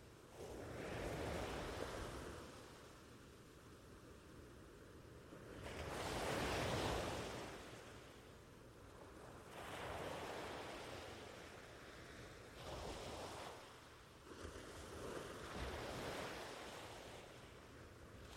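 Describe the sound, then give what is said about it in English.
Ocean waves wash onto a sandy beach in repeated broad surges, each swelling to a roaring crest every few seconds before receding into a steady hiss, with light wind noise from a warm breeze under a sunny, cloudless sky, and no voices. “to enjoy these sensations, perhaps in a moment, you may also become aware of the warm breeze in the air and the sound of the ocean waves.”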